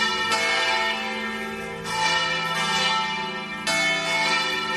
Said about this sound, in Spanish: Bueno, y este lunes festivo, donde Santander celebra el día de sus patronos, San Emeterio y San Celedonio, así han sonado durante toda la mañana las campanas de la catedral.